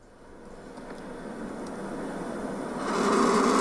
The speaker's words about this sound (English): And that's the vomiting. Is it? That's the sound of the bird, turkey buzzard.